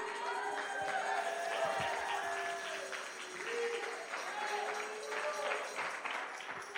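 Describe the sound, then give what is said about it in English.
A group of preachers standing up and clapping together, a steady, dense wash of applause that carries on throughout, with sustained tones and faint voices ringing underneath. “Praise God, all the preachers are standing up and clapping.”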